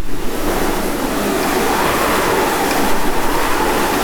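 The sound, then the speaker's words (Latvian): A steady, broad whooshing rush like strong wind, produced by turning the handle of a cylindrical foley wind machine used to make sound for film, loud with a gentle rolling swell and no voices. “Te ir tāds skaists cilindrisks aparāts ar rokturi, un ja mēs viņu pagriežam, tad sanāk vējš.”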